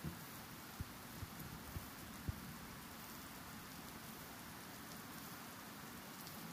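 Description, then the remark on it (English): Steady rainfall hisses evenly throughout, with a few sharper drips and taps landing at irregular moments early on. No voices are present. “We notice the sound of rainfall.”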